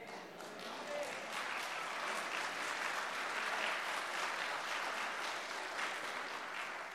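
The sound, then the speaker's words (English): Sustained applause from a large church audience, a dense crackle of many hands clapping steadily for about seven seconds at even loudness, with no one speaking over it. “You're clapping, and that means that you're okay with that.”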